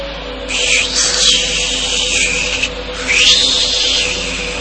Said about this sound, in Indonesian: Ya, aku mendengar suara desisan ular di depan pintu itu. Siapa itu? Suara desisan ular itu lagi.